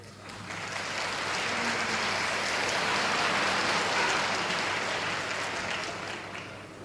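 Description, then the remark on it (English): A jazz concert audience applauds steadily, a dense wash of clapping that swells in and stays loud for several seconds before easing slightly at the end, with no voices standing out. “He loves applause more than anything else in this world.”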